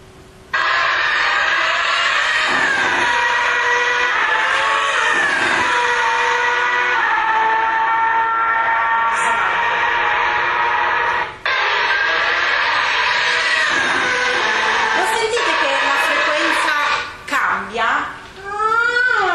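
Charles Leclerc's Formula 1 car passes a stationary listener, its engine screaming at a high, steady pitch for a long stretch, rich with layered harmonics, before a few quick rising and falling Doppler sweeps at the end.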